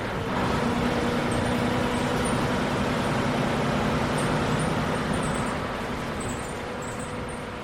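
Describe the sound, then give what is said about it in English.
A bus travelling across Ireland at 30 to 40 miles an hour drives steadily through road traffic, its engine droning at a constant low pitch beneath loud, continuous road rumble for the whole stretch, with no voices and only faint high squeaks now and then. “The bus goes between 30 and 40 miles an hour.”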